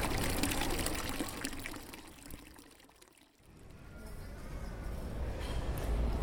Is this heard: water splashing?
yes